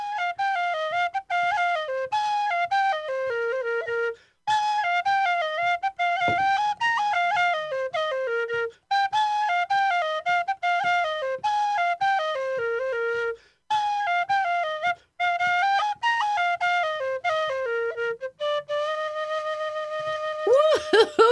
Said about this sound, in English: this wonderful Irish whistle that you're listening to is coming to you live from our studio